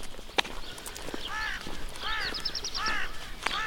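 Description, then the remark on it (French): A crow caws four or five times in a steady, harsh series, with a few sharp knocking clicks and faint outdoor background, as a pilgrim arrives on foot. “Et le corbeau qui avertit l'arrivée d'un pèlerin.”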